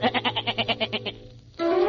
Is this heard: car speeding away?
no